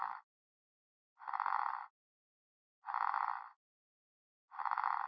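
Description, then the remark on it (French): A frog, isolated from a mixed sound scene by NMF source separation, croaks four times in evenly spaced bursts, each a raspy, buzzing call lasting about half a second, with silence between them and no other sounds. “L'une des tâches classiques que le NMF permet de résoudre est appelée la séparation de sources, c'est-à-dire partant d'un mélange, permet d'isoler une ou plusieurs constituantes sonores de la scène. Par exemple ici, isoler une grenouille.”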